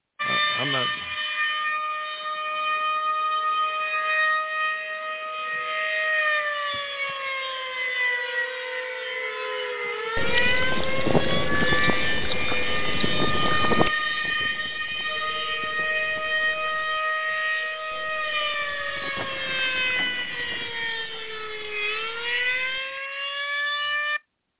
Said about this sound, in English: You all, that is my fruit bat alarm. That's my fruit bat alert that lets you know I'm going to the phones.